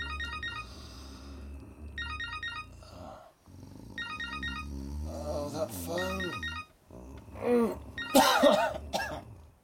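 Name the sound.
phone ringing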